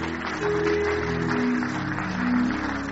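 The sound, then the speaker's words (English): A crowd claps steadily and densely as families come forward to be celebrated, a continuous wash of many hands at even loudness throughout, with faint sustained tones sounding underneath. “Please keep clapping as they come.”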